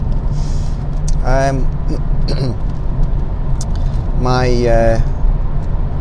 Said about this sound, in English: I'm in the car driving to work. It's 3 degrees centigrade, travelling currently at 35 miles per hour on the Edinburgh City Bypass, E720. It's supposed to be very busy this morning for some reason.